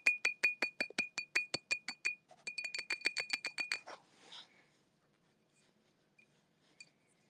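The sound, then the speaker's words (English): A glass baby bottle with a nipple is tapped in a quick, steady run of bright, ringing clinks, about twenty strikes with a brief pause midway, then everything falls almost silent. “Oh, it's glass. Can you hear the tippy tap of glass?”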